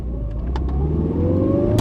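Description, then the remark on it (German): A car engine hums steadily and rises in pitch as the car pulls away and accelerates, driving to the Volkspolizeikreisamt (People's Police district office) in Erfurt around 4:30 on Monday morning, 9 September 1985, with a few sharp clicks and knocks near the start and end. “Eilig zieht sich Alex Lindner an, springt ins Auto und fährt zum VPKA, zum Volkspolizeikreisamt nach Erfurt.”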